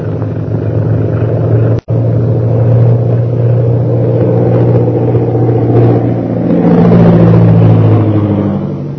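A big silver airplane's engine flying overhead, lit by light from a tower, a loud, steady low drone with layered humming tones that swells slightly toward the end, broken once by a brief cut near the start.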